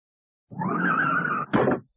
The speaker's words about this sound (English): I told you so. She's hit that lamppost. Oh, dear. It's all right. She isn't hurt. But look at her car.